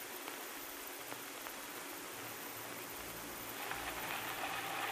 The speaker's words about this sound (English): there it comes. It's plenty wet, too. Ah, well, we shouldn't fight, Nora. We need this rain out there on the farm.